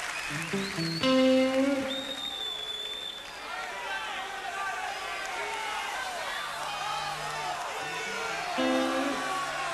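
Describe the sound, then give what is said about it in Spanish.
A live concert crowd applauds and cheers in a steady, dense wash of noise as the band's keyboard and accordion player is introduced, with scattered whistles and shouts rising out of it. A few brief instrument notes sound near the start. “Un aplauso”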